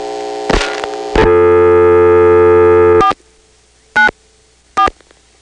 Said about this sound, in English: So now we've verified that Occoquan, which used to be on 1-8 from Dale City, is now on 3. That means if we pick up the phone and just touch tone 494, the register sender will dial 3-4. Let's see if we can hear it.